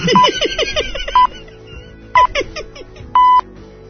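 A mobile phone number is dialed: short electronic tone beeps, a few longer held tones spaced roughly once a second, over a busy background with some faint voices.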